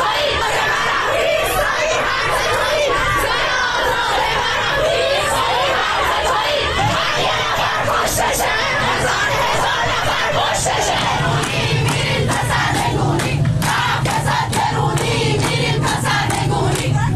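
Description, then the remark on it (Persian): A large crowd at a protest against the Islamic Republic in Najafabad or Bandar Anzali, Iran, on Sunday 18 Dey, chants and shouts loudly and steadily, voices overlapping in a dense roar with rhythmic surges and occasional higher-pitched cries, continuing without pause throughout. “تصاویر دریافتی از نجف آباد و بندر انزلی نشانگر برگزاری تجمعهای اعتراضی در این دو شهر علیه حکومت جمهوری اسلامی در روز یکشنبه 18 دی است.”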